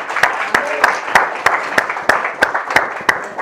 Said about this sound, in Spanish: ¿No merece que le demos un aplauso al Señor por eso?